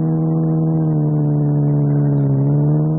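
A car engine hums steadily while driving, a loud, low drone with layered harmonics that holds an even pitch, dipping slightly near the end. No one speaks.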